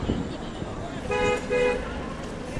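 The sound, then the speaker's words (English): Two short bus horn honks sound in quick succession over a steady rumble of street traffic in a busy bus area, loud against the busy background noise. “So we say goodbye to the bus neighborhood and move on to someplace else.”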